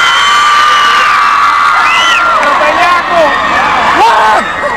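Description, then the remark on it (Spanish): A large audience of women at a live show screams and cheers loudly and continuously, high-pitched shrieks and whoops overlapping in a dense, sustained roar for several seconds. “Las mujeres crecen gritando ahora.”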